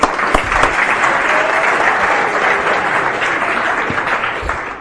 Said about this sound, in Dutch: Zullen we het nog een keertje ondersteunen met applaus?